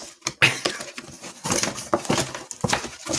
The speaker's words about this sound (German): Warte mal, aber ich habe doch jetzt deinen Cajon gar nicht gesehen. Noch nicht. Ja, deswegen raschelt er ja jetzt hier. Wir machen doch jetzt hier Live-Unboxing im Podcast.